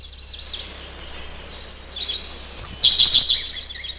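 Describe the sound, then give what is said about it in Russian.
Siberian blue robin song in the Ussuri taiga, a blue bird on a branch: faint high chirps give way to a loud, rapid, shrill trill near the end, over a low steady rumble in the background. “На ветке красивая синяя птичка. Синий соловей.”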